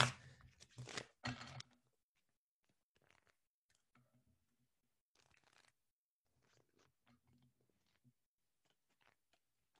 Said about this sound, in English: All right, so you guys are gonna hear some kind of loud shuffling, so watch your ears just for a second because I have to shuffle.